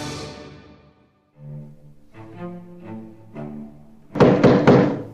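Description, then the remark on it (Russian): Three loud, quick knocks on a toilet door land near the end, following a short run of soft melodic tones; no one speaks. “Стуча в дверь клозета, стала возмущаться”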